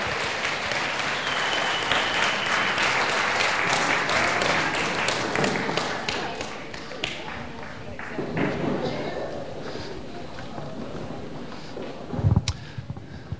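A crowd breaks into sustained applause, dense clapping that stays steady for several seconds before gradually thinning out, ending with a soft thump.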